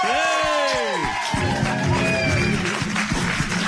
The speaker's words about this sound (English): I can hear the crowd.